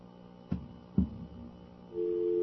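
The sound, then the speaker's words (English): Two sharp clicks, like a handset being picked up, are followed by a steady, continuous telephone dial tone that starts near the end and holds at an even, moderate level as the phone line is being checked. No one speaks. “That's dial tone.”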